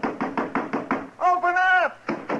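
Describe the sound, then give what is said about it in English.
A rapid, steady series of loud knocks on the locked wooden door of a house, about seven in a row, then a voice calls out briefly before two more knocks follow. “Go ahead and knock.”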